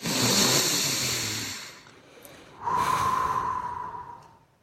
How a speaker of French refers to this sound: Alors, j'invite tout le monde à s'asseoir confortablement et on va tout simplement respirer et garder notre attention focalisée sur notre respiration.